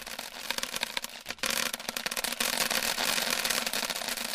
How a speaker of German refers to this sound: Es folgte ein starker Regen.